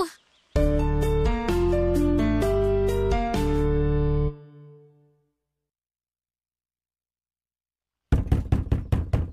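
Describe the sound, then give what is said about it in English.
A few seconds of sustained musical chords fade into silence, then a quick, insistent burst of about seven loud knocks on a locked studio door rings out, with no voices. “Open up! My aunt could be in there.”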